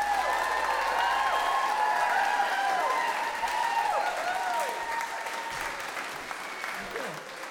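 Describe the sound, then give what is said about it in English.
A large audience breaks into loud, sustained applause to welcome a storyteller at a storytelling show, dense clapping running the whole length, with shouts and whoops rising over it before it eases off slightly at the end. “Please, one of those enormous rounds of applause”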